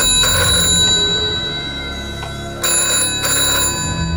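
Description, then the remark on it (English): An old Bakelite telephone rings loudly inside a house with a bright metallic bell, two long ringing bursts separated by a short pause, no voices. “An old Bakelite phone rings inside.”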